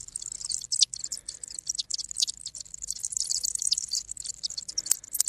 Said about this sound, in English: And you've even placed a microphone underwater to pick up the sounds of the swamp. I think we've got an example here.